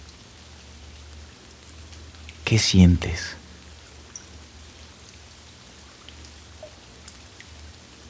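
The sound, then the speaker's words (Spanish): Soft, steady rain patters continuously on a roof, a gentle hiss with faint scattered drops. A voice speaks briefly near the beginning, then the rain carries on alone. “Ahora empiezas a oír cómo la lluvia empieza a caer sobre el techo.”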